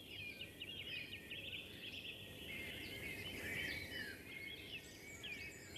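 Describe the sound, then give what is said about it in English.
A song thrush sings amid a busy dawn chorus, its bright repeated phrases woven into many overlapping bird calls, with a soft low rumble beneath, all fairly quiet. “Song thrush. Song thrush there.”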